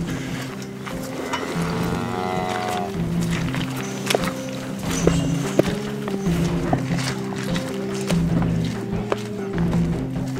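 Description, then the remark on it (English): Leather boots squelch and slap through wet liquid cow manure with a crust on top, beside hundreds of cows, in an uneven walking rhythm, with a low droning background and a brief tonal call near the start. “a crust on top, and now basically not only the entirety of the outside of my leather boots, but I fear the inside as well, not to mention my pants up past my ankles are coated with sort of liquid manure.”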